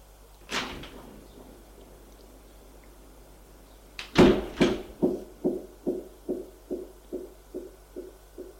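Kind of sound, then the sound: household object, door opening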